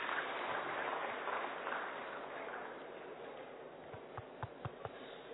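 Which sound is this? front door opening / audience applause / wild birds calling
audience applause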